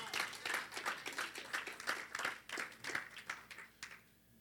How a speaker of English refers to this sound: Clap for the Lord Jesus.